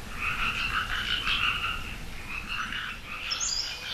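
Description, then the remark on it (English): A dense chorus of frogs croaking together, overlapping trilling calls pulsing steadily at a fairly loud level, with a few higher chirps near the end and no voices. “And then the frogs, the amphibians, and the reptiles come in to join the chorus, and they join the chorus about January after the first rains, and they're really loud.”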